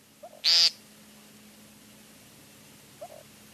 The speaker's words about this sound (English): Okay, another sign of spring is the courtship display of the American woodcock. Which was the sound you heard at the opening. That is our bird call of the month.